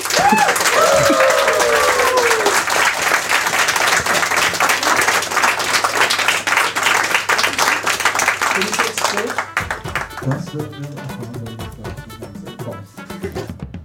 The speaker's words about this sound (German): Dafür vielen lieben Dank für dein Spiel. Der Applaus gehört dir.